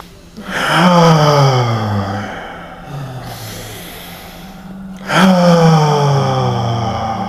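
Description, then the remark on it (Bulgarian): Deep, forceful full yogic breaths: a strong rushing inhale and exhale, a quieter stretch, then another powerful breath starting midway, slow and rhythmic with no talking. “Дишай така, продължи да дишаш, пълно йогийско дишане, намери си малко ритъма, дишай по този начин.”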